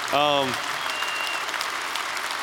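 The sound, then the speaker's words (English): An audience at an evening event applauds a guest's father, who is present, with dense, steady clapping that continues for the whole stretch, opened by a short, loud voiced whoop or cheer rising above it. “He deserves a lot of applause.”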